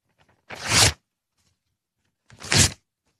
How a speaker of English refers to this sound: That's the piece of paper.